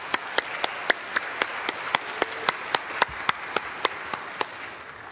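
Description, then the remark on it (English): An audience applauds the youth and youth counselors on Mother's Day. A steady hiss of clapping has sharp, evenly spaced claps punching through at a brisk, regular beat, about four per second. No one speaks. “So can we just take a moment and give them a big round of applause?”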